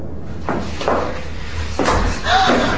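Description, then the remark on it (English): A heavy church door is unlocked at dusk and pushed open on well-oiled hinges, then left ajar, with several dull thuds and a creaking scrape near the end, over a low rumbling background. “Unlocking a door at dusk. And leaving it ajar.”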